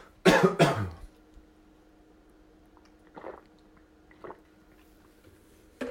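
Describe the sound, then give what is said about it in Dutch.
A person takes a sip of water: two quick, loud bursts like a slurping sip, then a few soft, spaced swallows in otherwise quiet surroundings, with no one talking. “Wacht even, neem een slokje water.”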